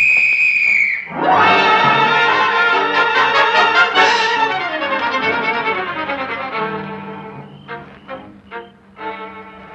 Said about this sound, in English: blow your whistle, Nora, and signal the boys to close in